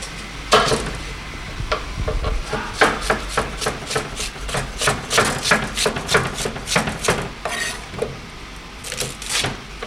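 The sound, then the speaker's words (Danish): Rapid knife chopping of carrots on a cutting board in the busy kitchen of Hotel Prinsen, food being prepared for a party that evening, a steady run of sharp taps over low kitchen clatter and background hum, with no one speaking. “Ja, her i øjeblikket der er ved at gøre nogle gulerødder, og det er til selskab i aften.”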